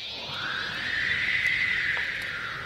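A single drawn-out horse whinny, high and wavering, rising then slowly sliding down over a couple of seconds against a steady background hiss. It is moderately loud, with no talking.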